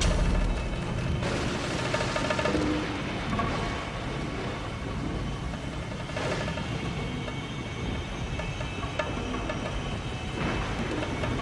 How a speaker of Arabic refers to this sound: العاصفة يا مولاي دفعت 20 سفينة إلى المرسى، وقد استولينا عليها جميعا كما أمرت.